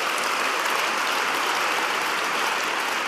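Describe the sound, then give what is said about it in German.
Sustained applause from a large crowd after the European Commission President's speech pledging to stand with Ukraine, a dense, even wash of clapping that stays loud and steady throughout with no voices rising above it. “Da gab es dann, das spielen wir nicht in voller Länge, sonst sind wir am Ende der Sendezeit, sehr, sehr langen Applaus”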